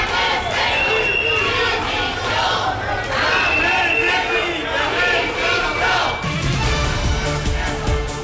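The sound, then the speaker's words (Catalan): A loud crowd from the platform Tarragona Patrimoni de la Plau chants and shouts demands for Ballesteros's resignation at a Spanish army band concert at the Teatre Metropol in Tarragona, voices overlapping in a steady rhythmic clamor that continues without pause, with a rougher burst of noise near the end. “Són crits de la plataforma Tarragona Patrimoni de la Plau.”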